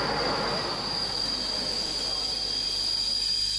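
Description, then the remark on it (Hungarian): Wheels of a pilgrim train, carrying pilgrims from Hungary to Transylvania, squeal on the rails in a steady, high-pitched screech that holds throughout, over a loud rumbling rush of the moving train, with no voices. “Gyalog, motoron, autóval vagy vonattal, ahogy a zarándokvonatok utasai, úgy velük együtt szinte az egész Csíki-medence útra kelt ma reggel.”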